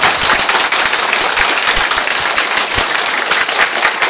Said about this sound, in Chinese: 热烈掌声！